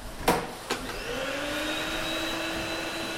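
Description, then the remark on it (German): A vacuum cleaner starts up after a couple of sharp clicks and keeps droning steadily with a rising motor whine as a man in a red-and-white cap vacuums the dining and common room of a centre for asylum seekers, with no one talking. “Ein Mann mit einer rot-weissen Dächlikappe ist am Staubsauger im Ess- und Aufenthaltsraum.”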